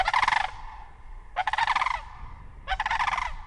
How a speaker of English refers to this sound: Thousands of sandhill cranes are migrating north from the Central Valley for spring. Some are setting up shop in Washoe Meadows State Park and the Upper Truckee Marsh.